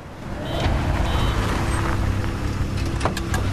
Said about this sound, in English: The pinnacles of the New York skyline are bathed in glorious sunlight. Far below in the streets, the traffic seethes. One yellow cab pulls over to the curb and stops.